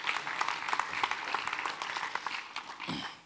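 An audience breaks into a steady round of applause, many hands clapping densely together for a few seconds before the sound begins to ease off at the end.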